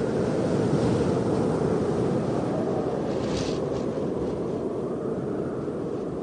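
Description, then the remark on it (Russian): A strong wind roars steadily and loudly throughout, a dense, rushing noise with slight surges and no voices present. “и подул сильный ветер, и чуть не унес кота.”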